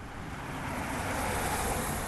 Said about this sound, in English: It's a car, right? You can tell.